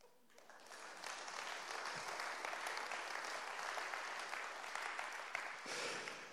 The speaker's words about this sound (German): Ja, da gab es beim Applaus noch ein bisschen Anlaufschwierigkeiten.